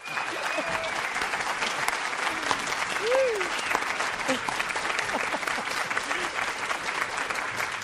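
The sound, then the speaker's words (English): Sustained applause from a large indoor audience at the Looking Glass Theater for a live author interview event with Peter Carey, dense steady clapping throughout at a fairly loud, even level, with a faint whoop rising briefly in the middle. “What a great crowd.”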